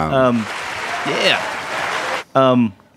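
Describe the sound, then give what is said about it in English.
A burst of crowd applause fills about two seconds and then cuts off instantly, with no fade. A brief voice comes just before the clapping and another right after it stops. “I love the hard, like no fade out. Yeah, yeah. Just like everybody stop clapping.”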